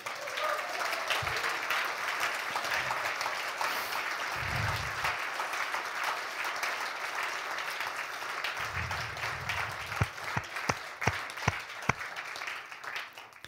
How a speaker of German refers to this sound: Lasst uns immer einen Applaus geben, oder?